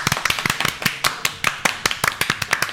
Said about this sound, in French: c'est à deux et à deux seulement que nous allons applaudir comme si nous étions dans un théâtre notre invitée cette semaine.